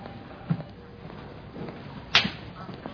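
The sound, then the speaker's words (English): A person hits themselves with an open hand: a single sharp, loud slap cracks out midway, preceded by a fainter soft thump, over a low hum with no talking. “How are you hitting yourself, though? Is it an open hand or a fist? Open hand.”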